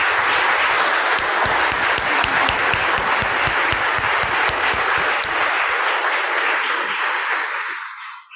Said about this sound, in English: am so thrilled that we were able to offer this Lessons and Carols during church on a Sunday morning, and to have wonderful guest musicians, and to have our own choir just absolutely shine like that. So I think we should give them a round of applause.